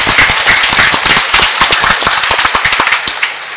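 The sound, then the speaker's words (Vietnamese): Loud, dense applause from a church audience gathered for Mass, a continuous crackle of many hands clapping at once with sharp individual claps popping through, steady for a few seconds before thinning slightly. “Kính thưa quý ông bà và anh chị em, sau hơn 10 ngày hôm nay chúng ta được quy tụ trong giờ phút thiêng liêng này, chúng ta hãy chúc mừng nhau một tràng vỗ tay thật lớn.”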